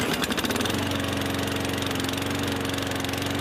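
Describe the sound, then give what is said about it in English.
A small petrol lawn mower engine runs steadily at a constant, fairly loud level with a buzzing, rattly drone. No one speaks. “Morning, we're turning back the clock on February 13, back to 1953 when the Victor Lawn Mowing Company was formed in Australia by Melvin Victor Richardson.”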